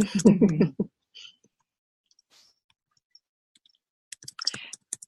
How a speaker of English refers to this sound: Someone's typing feverishly.